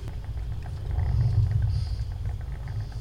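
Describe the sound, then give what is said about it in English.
A deep, steady rumble of motorcycle engines, swelling briefly louder around the middle as if revving, then settling back to a throaty idle, the bikes gathered at a memorial for a police officer. No voices are heard. “Her passion besides law enforcement was motorcycles.”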